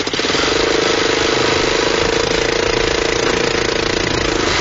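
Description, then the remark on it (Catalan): An off-road buggy engine revs loudly as it is given some throttle to cross a river, a rough, rattling mid-pitched drone that holds fairly steady for several seconds with slight surges. No voices are heard. “Donem una mica de gas.”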